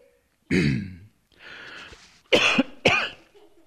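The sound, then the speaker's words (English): A tickly cough: one harsh bark, a softer rasping throat-clear, then two quick, sharp coughs in a row. No talking, just the dry, scratchy coughing. “got a tickle.”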